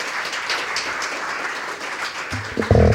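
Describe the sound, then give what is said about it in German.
An audience at a U20 Poetry Slam claps for the first contestant in a steady, dense patter for a few seconds, filling the room evenly, before a voice starts up over the fading applause at the very end. “Ihr dürft schon mal ein bisschen klatschen.”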